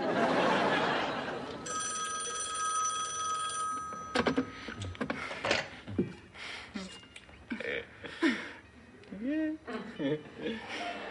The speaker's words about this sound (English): Aren't you gonna answer the phone? Is that the phone? I thought my lips were ringing.